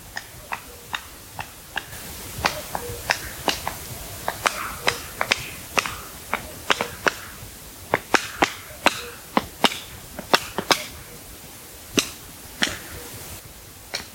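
Sharp, dry wing-claps of males displaying at dusk in their territory crack out again and again at an irregular pace, some in quick clusters, over a faint steady background with no voices.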